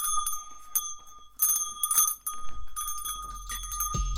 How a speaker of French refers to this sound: Une cloche de ma chambre.